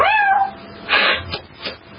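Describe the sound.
A person imitates a cat's meow, one drawn-out, falling cry, followed by a few short breathy bursts.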